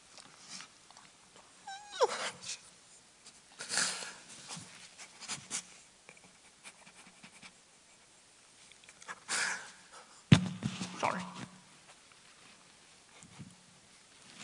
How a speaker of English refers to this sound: Sorry about blowing my nose in the microphone.